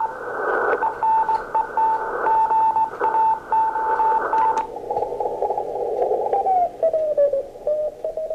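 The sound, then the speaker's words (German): Morse code beeps keyed on and off in quick dots and dashes, a steady mid-pitched tone over hissy radio static, with the signal shifting and wavering slightly in pitch toward the end. “Und selbst das Morsen ist nicht vom Zahn der Zeit angefressen.”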